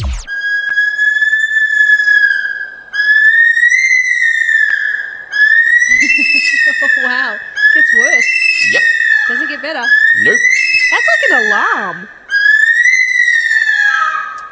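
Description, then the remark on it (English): A bush stone-curlew calls at night, at about 2 o'clock in the morning: a run of about six loud, high, drawn-out wailing whistles, each slightly rising then falling, with voices faintly talking beneath the middle calls. “That is a bird. What kind of bird? It's called a curlew. To be more exact, it's a bush stone curlew.”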